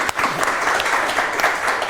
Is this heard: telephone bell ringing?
no